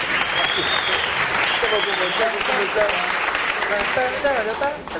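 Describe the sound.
Steady applause from a crowd, a dense, even patter of clapping that holds at a fairly loud level for about five seconds, with faint voices mixed in underneath.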